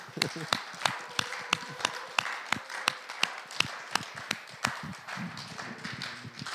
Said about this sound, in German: Jubel. Klatschen für Jesus.